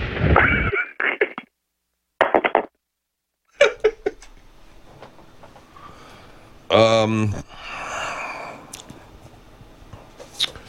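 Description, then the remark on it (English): Several loud, booming bursts go off in quick succession, separated by brief silences, followed by scattered sharp pops and a rumbling, noisy tail with a short vocal-like sound in the middle. “I just have explosions going off because it makes me feel good.”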